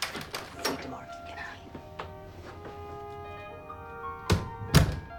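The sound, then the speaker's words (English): An apartment door being locked: a scatter of light clicks and taps, then two loud, heavy thunks near the end as the lock bolt shoots home, with a faint ringing tone lingering underneath. “Kate locks the apartment door, turns out the hall lights, and saunters back into the room.”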